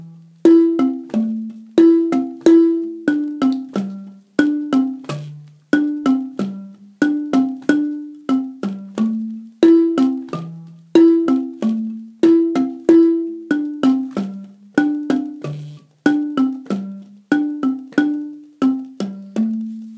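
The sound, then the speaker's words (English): A bell part rings out alone in a steady, unhurried rhythm, each struck tone decaying before the next. A short descending melody of mid-low pitches repeats several times without a break. “Bell part for us.”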